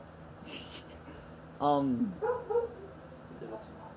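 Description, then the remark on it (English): Dogs bark inside a house: one strong, sharp bark that drops in pitch, followed by a couple of quicker, softer yips, over a low steady background hiss. “It's not even, the dogs are barking from inside the house, dude.”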